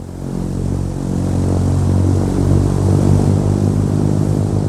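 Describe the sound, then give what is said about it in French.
Jacques Brel's small propeller plane's engine drones loudly and steadily, a continuous buzzing hum with a deep throbbing tone that holds level throughout, with no voices. “Avec son petit avion, il gagnerait un temps précieux d'une étape à l'autre.”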